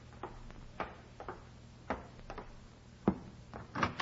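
door being opened

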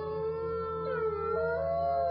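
wolves howling

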